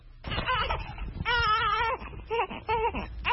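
A two-week-old newborn cries in a series of strained, high wails: a few short bursts, one long drawn-out cry, then quicker sobbing cries with brief breaths between, in Côte d'Ivoire's economic capital.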